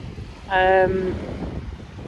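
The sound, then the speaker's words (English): A huge ocean liner passing at sea gives a single short horn blast, steady and tonal for about half a second, over a constant rumble of wind and open water. “I mean, interestingly, there's this huge ocean liner going past at the moment.”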